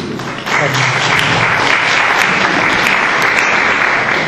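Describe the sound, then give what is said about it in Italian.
A crowd breaks into sustained applause for a speaker about to give a personal testimony, dense clapping that starts abruptly and stays loud and steady for several seconds, with faint voices mixed in underneath. “Un applauso dato sulla fiducia.”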